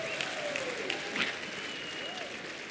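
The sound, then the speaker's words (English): Steady audience applause fills the space, a dense wash of clapping from a crowd with faint voices and whistles mixed in, sustained throughout without pause. “I didn't mean for an applause.”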